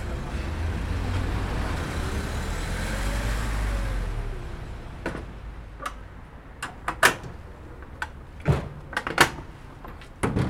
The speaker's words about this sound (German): Autos fahren vor, Tische und Bänke werden aufgebaut.